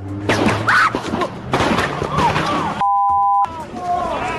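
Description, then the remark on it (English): Muffled gunfire captured on a cell phone video in Ferguson, Missouri, where two police officers were shot, with several sharp booms in a rough, irregular series, heard amid voices and a steady tone partway through. “Here's the gunfire caught on cell phone video and St.”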